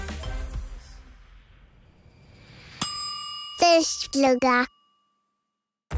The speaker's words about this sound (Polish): Zaraz będzie pierwszy dzwonek i czas na lekcję.